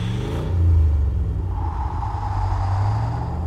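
A car engine revs loud at a gas station, with a deep, steady rumble that surges early and then holds at a throaty drone. No voices are heard.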